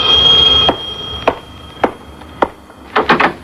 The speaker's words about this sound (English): I remember the day that Doc and I were in his office and the doorbell sounded.